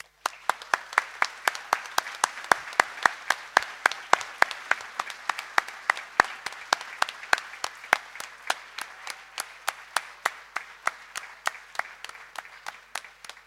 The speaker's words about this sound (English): I invite you to give yourselves a round of applause.